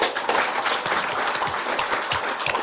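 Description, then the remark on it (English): Steady applause from a crowd at a City of Northport event welcoming new city employees, many hands clapping at once in a dense, even patter that holds at a fairly loud level throughout, with no voices over it. “And thank you all for your applause.”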